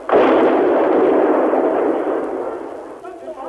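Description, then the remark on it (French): A heavy explosion, one of new explosions shaking the walls, erupts abruptly and roars on for about three seconds as a loud, rumbling wash of noise, then fades, with faint voices surfacing at the end. “Elles ont raison, de nouvelles explosions font trembler les murs.”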